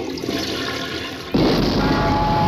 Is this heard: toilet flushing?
yes